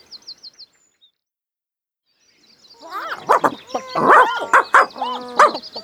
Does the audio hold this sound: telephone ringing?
no